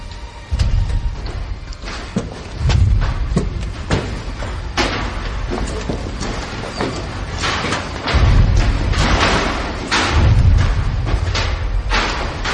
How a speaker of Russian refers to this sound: Нет, господа, прислушайтесь. Это салют. Совершенно верно. 6-дюймовая батарея салютует.